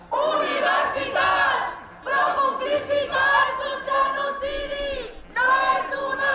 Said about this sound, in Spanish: Decenas de tiendas de campaña y cientos de jóvenes con pancartas en apoyo del pueblo palestino y megáfono en mano para gritar